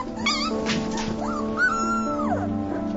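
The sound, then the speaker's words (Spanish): High-pitched wavering howls and yips from young wolf pups, several thin rising and falling cries overlapping, with one long sustained note toward the end and no talking. “Los lobos jóvenes aullan de la misma manera que los adultos, pero como son más pequeños, sus aullidos son mucho más agudos.”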